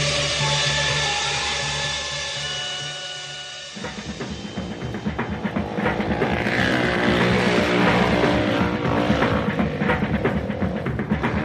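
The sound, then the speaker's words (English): A motorcycle engine hums steadily as it drives past, then shifts into a louder, rougher throbbing rumble that grows slightly stronger, with no voices. “Motorcycle has two wheels and handlebars to steer it. It's fun to drive, and when you drive, everyone can hear it.”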